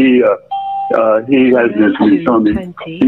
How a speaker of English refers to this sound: They're just bleeping out his address.